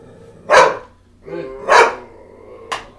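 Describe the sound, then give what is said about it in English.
A dog barks loudly twice with a sharp, rough tone, followed by a brief higher yelp; a short low whine or growl sits between the barks. “You're being an asshole, dog. Shut up.”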